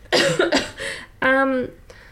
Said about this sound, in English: For some reason, my throat's closing up. I'm going to cough.